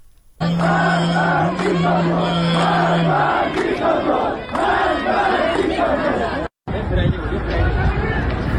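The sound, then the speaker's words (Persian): A large crowd chants and shouts together in rhythmic waves at the grave of Saeed Mohammadi in Eslamabad-e Gharb, loud and continuous, with a steady low hum beneath during the first few seconds and a brief cut before the chanting resumes. “در اسلام آباد غرب سعید محمدی، ما از مزارش صدایی داریم که میشنویم.”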